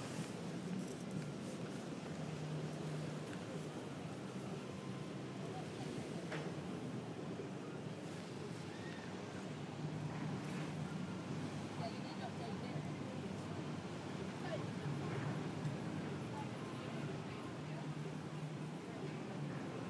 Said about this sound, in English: Because if you angle it at the right point between the planks of wood that we're standing on, you hear the water down below us.